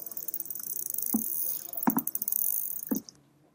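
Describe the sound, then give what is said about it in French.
Rapid trains of sharp dolphin echolocation clicks, used by dolphins to locate themselves in their environment, buzz steadily for about three seconds, with a few dull underwater thumps mixed in, then stop abruptly. No one speaks. “Ce sont des clics qu'on appelle des clics d'écolocalisation, ce qui permet aux dauphins de se repérer dans son environnement.”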